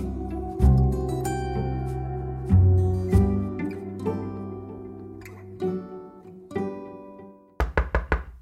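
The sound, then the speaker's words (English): Gentle music plays, then stops, and a quick series of about five sharp knocks on a door in Washington, D.C., from a visitor from a congressman's office, follows near the end, fairly loud. “Answer the door.”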